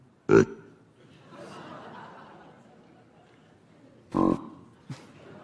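Chacma baboon friendly grunts, made when the baboons approach one another as an expression of friendly intent: two loud, deep, gruff grunts a few seconds apart, then a shorter, softer one, with a low murmuring rumble in between.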